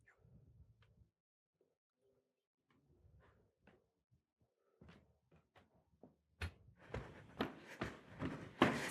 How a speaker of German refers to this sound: Hier, das... Das ist diese Tür? Ja.